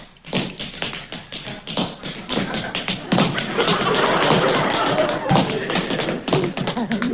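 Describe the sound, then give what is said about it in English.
Rapid tap dancing steps clatter on a hard floor, crisp metallic taps in quick irregular bursts, fairly loud, with a busy stretch of dense rhythmic tapping in the middle; danced by a person who has been taking a dancing class. “What is that supposed to be? Well, I've been taking a dancing class.”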